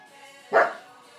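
A single short dog bark, a sharp mid-pitched woof that stands out loudly over a quiet, faintly humming background.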